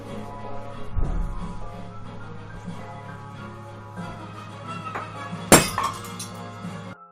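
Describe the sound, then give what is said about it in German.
A drinking glass, broken as someone stands up, smashes on the floor in one sudden, loud crash, followed by a brief bright tinkle of shards, over a steady low electrical hum and faint background noise. “Als Rainer abends erneut streamte, ging beim Aufstehen ein Glas zu Bruch.”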